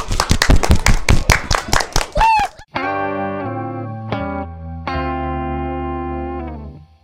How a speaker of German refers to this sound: Und nochmal einen großen Applaus für unsere Experten.